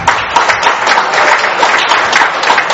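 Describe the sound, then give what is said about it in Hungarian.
A crowd at a Red Cross charity ball in Hungary applauds steadily to welcome guests from Bánk, dense overlapping claps forming a continuous, fairly loud wash of sound throughout, with no break or talk. “A bánkiakat természetesen egy nagy tapsára is.”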